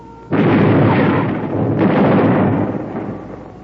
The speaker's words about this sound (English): Give him another broadside. By thunder, we'll see you to Davy Jones. They need persuasion, mates. Fire at will!